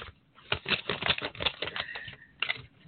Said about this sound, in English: So I am going to forgive all the paper rattling, but I am literally going to open the envelopes here.